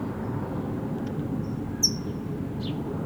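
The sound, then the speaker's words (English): A few sharp, high-pitched chip calls of a brown towhee, spaced irregularly, the clearest one loud and abrupt, over a steady low background rumble. “Yes, red, yellow, green is the towhee that's chipping.”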